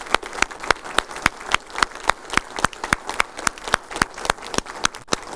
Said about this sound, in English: We got some aviators here with us, and we appreciate your service to our country and training. So let's give these individuals a big round of applause.